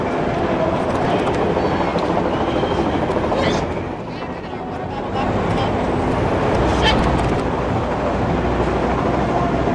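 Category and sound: vehicle, helicopter flying overhead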